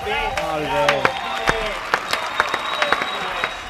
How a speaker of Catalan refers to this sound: Nostres, estic aplaudint jo. Ara ho tenim. Ara. Anem tard amb els aplaudiments, eh?